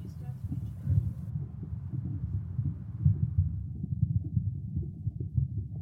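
human body sound, heartbeat

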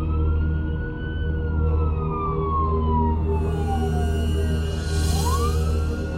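vehicle, police car sirens wailing

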